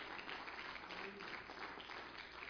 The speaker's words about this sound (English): Would you clap your hands unto the Lord this morning?